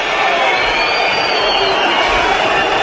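A huge crowd of Barcelona (Barça) fans at Montjuïc stadium whistles loudly in disapproval as a player leaves the pitch, a dense, sustained wall of shrill whistling and roaring that fills the space for the whole stretch without a break.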